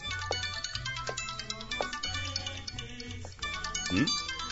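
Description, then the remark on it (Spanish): A mobile phone rings with a looping musical ringtone, a steady melodic pattern over a low bass pulse, fairly loud, with faint voices murmuring underneath; the call is from someone at work. “¿Está sonando tu teléfono?”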